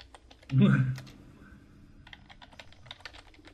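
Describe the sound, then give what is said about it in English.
Rapid keyboard typing, a steady patter of small clicks, opened by a brief louder thump before the keystrokes carry on at an even pace. “Is that typing?”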